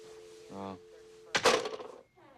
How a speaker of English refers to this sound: Sally hears the door and spins around.